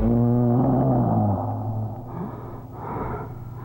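Heavy, suggestive breathing from a record of sensuous songs: a drawn-out, voiced, moan-like exhale gives way to raspy, breathy gasps, with no talking.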